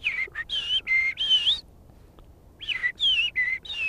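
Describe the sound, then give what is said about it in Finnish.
A person whistles an imitation of a Eurasian blackbird's song: two bursts of fluty, warbling phrases, clear, separated by a short quiet pause, with no talking. “Osaatko mustarastaa laulua?”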